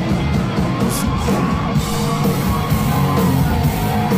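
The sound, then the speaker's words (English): A loud, dense concert crowd, recorded on a cell phone, yells and shouts continuously as people jump up and down in a mosh pit, voices overlapping in a chaotic roar with occasional whoops rising above the din, sustained throughout. “Everyone is jumping up and down. There's a mosh pit that has formed.”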